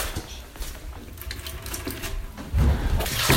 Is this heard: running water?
yes